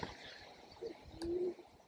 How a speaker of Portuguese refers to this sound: Ouvimos também sons de uma pomba de coleira, o animal vivo mais próximo do pombo passageiro, relembrando-nos também da impossibilidade de um som que nunca poderemos ouvir.